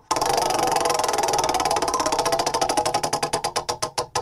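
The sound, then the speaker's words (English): A prize wheel spins with a rapid, loud clatter of ticks that steadily slows into distinct, spaced-out clicks as it winds down. No one speaks. “We've already covered some ground here, but let's go ahead and fire off the wheel and get going here.”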